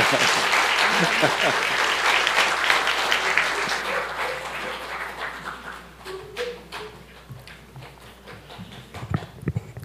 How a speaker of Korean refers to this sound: 큰 박수를 한 번 더 격려해 주세요.